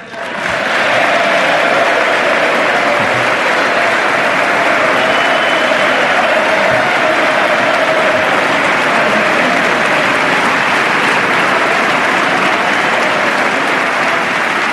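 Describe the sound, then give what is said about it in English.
Sustained, loud applause from a large audience at President Obama's State of the Union address as Vice President Biden rises to applaud Speaker of the House John Boehner, a dense steady roar of clapping that holds at full strength for the whole stretch without any talk over it. “Even Vice President Biden just rose to applaud Speaker of the House, John Boehner.”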